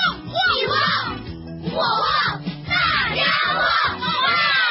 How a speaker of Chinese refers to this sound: 哇，早上直播第一件事，大喊一声哇哇，同学相见早安哇哇，亲爱的朋友，请随时大喊一声。